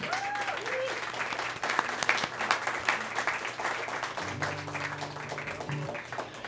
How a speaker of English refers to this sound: Could we have a round of applause for the Project Drew team?